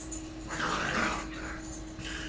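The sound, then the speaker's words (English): A dog named Ginger whimpers and whines in a high, wavering tone for about two seconds, moderately loud, with a steady low hum underneath. “Ginger the psychotic dog. I used to call her Ginger the neurotic dog, but now I call her Ginger the psychotic dog”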